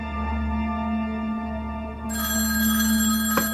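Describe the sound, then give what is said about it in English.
A telephone rings with a steady, buzzing bell tone, brightening partway through, then a short sharp click near the end as the phone is quickly picked up. No one speaks. “Finally, the phone does ring, and Freeman quickly picks it up.”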